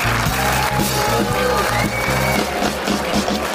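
A crowd claps steadily and loudly with scattered cheers, a continuous wash of applause lasting several seconds over a regular thumping low beat of music.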